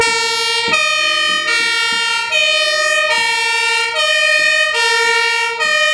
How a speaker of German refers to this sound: Danach ging es im Aufmarsch durch die Straßen der Ortschaft zu den Klängen der Blaskapelle in Begleitung der Feuerwehrsirenen.